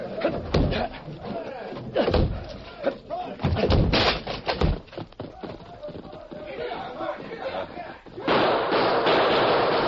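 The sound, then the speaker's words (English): A locked back door is battered down: a rapid series of heavy thuds and splintering crashes, with excited voices in the background, ending in a steady rushing noise. “Locked! We'll have to break it. Stand back.”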